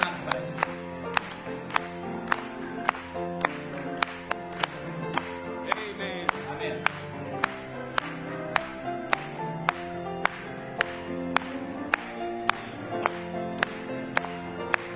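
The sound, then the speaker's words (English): An audience claps in a steady, even beat, roughly two claps a second, over sustained hymn music that keeps playing underneath throughout. “Let's just clap and join.”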